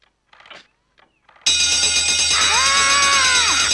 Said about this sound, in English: I expect you to be in your seat when the bell rings. I bought a bell.